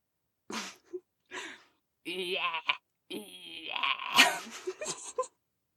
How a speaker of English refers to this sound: And those are all goats. Because if YouTube has taught me anything, it is that you can make pretty much any sound you feel like making, and there is a goat somewhere who makes that sound.